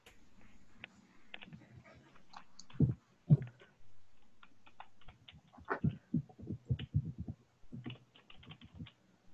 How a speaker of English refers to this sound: I'm typing my email address in the chat box for anyone. I got an ask, so if anyone wants to email me.